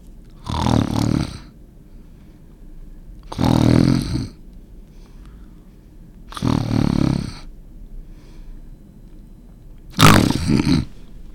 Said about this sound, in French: Comment reconnaître une personne qui ronfle et qui souffre d'apnée? Écoutez bien ceci.